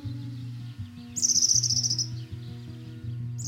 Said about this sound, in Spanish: El verdecillo es de las primeras aves que con su vuelo o su bello canto avisa de la llegada de la primavera.